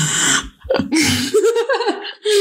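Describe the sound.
A voice imitates heavy, snorting breaths, loud, with a rough noisy exhale at the start, a wavering voiced grunt in the middle and another sharp breath at the end.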